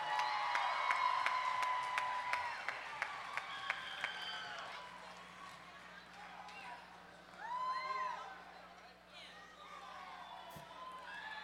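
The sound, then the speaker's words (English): An audience at a live music show applauds guest musicians being brought on stage, a dense wash of clapping with sharp individual claps standing out early on, then shouts and cheers swell briefly before settling into a lighter murmur of clapping and voices. “we all give them a round of applause.”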